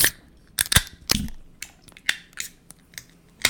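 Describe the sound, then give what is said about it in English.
Beer cans, including a Christmas tree ale and a Candy Cane Milk Stout, being cracked open: a series of sharp metallic snaps and clicks, with short bursts of fizzing hiss between them and no talking. “Without further ado, crack that brew.”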